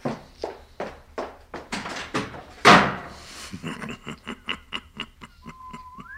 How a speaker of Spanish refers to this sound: No te preocupes, muchacho, que se fue dando un portazo.